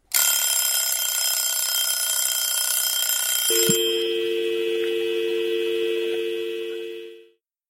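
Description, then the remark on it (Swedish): A phone line cuts off as a 5-minute call timer runs out: a harsh, buzzing electronic tone sounds for a few seconds, then abruptly drops to a steady, low line tone that slowly fades away. No voices. “När timern tickat sin sista sekund så bryts linjen.”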